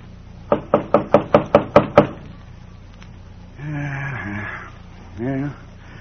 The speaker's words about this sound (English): At dusk, hungry, dirty, tired, he turns into the lane leading to a ranch house, the Double R Bar Ranch. He knocks at the door.